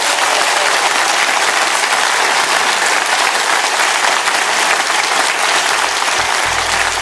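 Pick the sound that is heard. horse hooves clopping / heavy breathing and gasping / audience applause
audience applause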